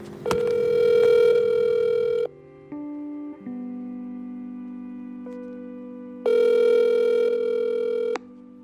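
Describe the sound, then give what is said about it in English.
A phone call to a mother connecting: electronic tones shift briefly as the number goes through, then a loud ringback tone sounds twice, each ring about two seconds long, with a steady softer hum between. No voices. “I am just about to call my mom.”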